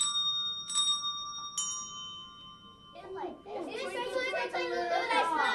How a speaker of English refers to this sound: Second graders are playing handbells.